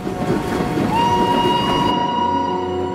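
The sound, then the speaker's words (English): A steam train rumbles and hisses as it pulls slowly away in pouring rain, a sustained whistle-like tone ringing over dense rain noise. Loud throughout, with no voices. “they wave to each other as the train pulls slowly away in the pouring rain.”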